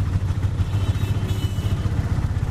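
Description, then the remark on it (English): Steady street traffic with a motorcycle engine rumbling, a thick, continuous low roar with faint clatter on top and no voices. “Or the only place had a background of traffic sound?”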